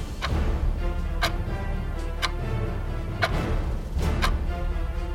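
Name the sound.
clock ticking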